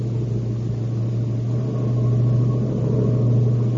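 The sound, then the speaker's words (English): A car engine drones loudly as the driver guns it down a long mountain downgrade, its deep, steady roar rising slightly in pitch midway as the vehicle picks up speed, with no voices present. “Gun it. Push it for all she's got. This is a long downgrade.”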